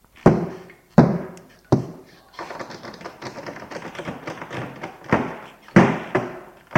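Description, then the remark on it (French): Heavy, booming thuds strike a door again and again, loud, as police batter it down, with a stretch of rattling, splintering knocks in the middle. No voices. “Ouvrez, police! Il regarde autour de lui. La police enfonce la porte.”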